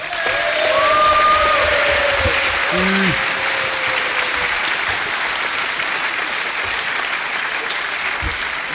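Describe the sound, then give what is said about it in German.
Sustained audience applause for the finalists at the end of a Jeopardy quiz game, a dense, steady wash of clapping lasting throughout, loudest at the start and gradually easing, with a few faint tonal sounds mixed in early on. “Und einen letzten Applaus noch für unsere Finalisten.”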